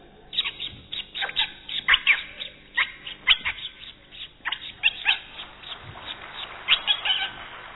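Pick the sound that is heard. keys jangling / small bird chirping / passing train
small bird chirping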